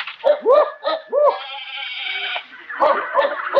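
A noisy mix of assorted animals in an old horse doctor's animal shed: goats or sheep bleat in quick bursts, one long drawn-out cry, then rough barks and squawks overlap.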